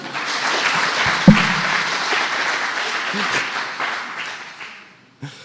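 A crowd applauds steadily for several seconds, a dense wash of many hands clapping at even loudness before it thins out and stops.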